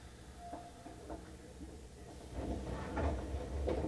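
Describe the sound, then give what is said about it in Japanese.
A low rumble inside a train gives way to a louder mechanical whoosh and clunk as the left-side doors slide open at Tennoji station. Nobody speaks. “左側の扉が開きます。”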